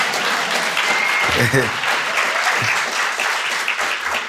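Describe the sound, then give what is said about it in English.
Steady applause from a crowd as a performer walks out at a poetry event, a dense wash of many hands clapping at an even loudness throughout, with a few faint voices and brief whoops mixed in. “Y'all can clap when I walk out, that's all right.”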